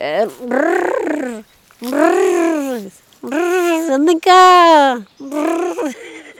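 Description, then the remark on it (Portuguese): A herder's vocal call to sheep and cows, calling them to follow: five loud, drawn-out voiced cries such as "Andem cá!" with rising and falling pitch, each lasting about a second, separated by short pauses, with no other sounds. “E como é que você chamava as ovelhas e as vacas?”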